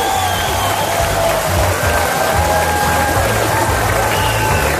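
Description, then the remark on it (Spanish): A crowd in Vigo applauds and cheers for the mayor of Vigo, Abel Caballero, in a steady, loud wash of clapping that lasts the whole stretch, with faint tonal sounds and a low rhythmic rumble underneath. “Un fuerte aplauso para el alcalde de Vigo, Abel Caballero.”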